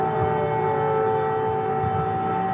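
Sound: air raid siren wailing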